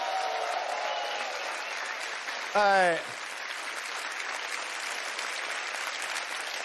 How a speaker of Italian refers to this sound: tutti i tecnici, i cameraman, fate un applauso ai cameraman.